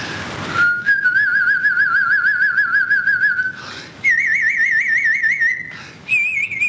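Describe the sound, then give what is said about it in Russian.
A loud human whistle holding a fast, warbling trill across three long phrases, each a little higher than the last, separated by brief pauses. No one speaks. “Например, трель, я вам сейчас продемонстрирую.”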